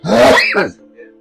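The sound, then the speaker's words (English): A harsh cough bursts out from a man who had just been laughing, breaking into a second rough hack before trailing off into a faint, breathy tail. “That nigga laughed and started coughing.”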